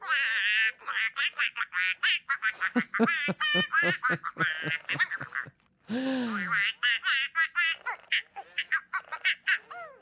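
A toy duck, set to its silly mode with a silly card, quacks in a rapid stream of squeaky, giggle-like quacks and chirps that runs almost nonstop, with one brief pause midway.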